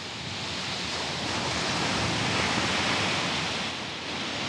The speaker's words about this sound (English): As I walk to the waves, I'm thinking of the water and sand